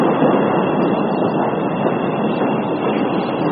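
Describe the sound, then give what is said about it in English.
A train passes with a loud, steady rumbling roar that holds constant throughout, a dense wash of mechanical noise with no voices over it. “There's a train! Choo-choo, fuckers!”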